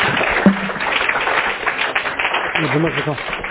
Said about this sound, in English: These are all people we want to thank, even if they're not here today to get our appreciation. Let's give them some applause also.